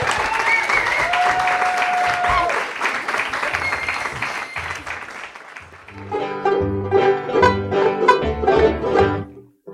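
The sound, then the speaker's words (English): Steady applause fills the first six seconds, a dense, loud patter of clapping hands, before fading as a bright musical tune with plucked, rhythmic notes takes over. “I don't know, I'm clapping myself.”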